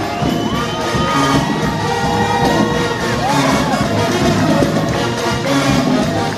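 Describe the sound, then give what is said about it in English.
A large concert crowd at L'Embarcadère in Aubervilliers, France, cheers loudly and steadily for several seconds, a dense roar of voices with scattered shouts and high whoops rising above it, never letting up. “The crowd here tonight. Yeah, they was jamming.”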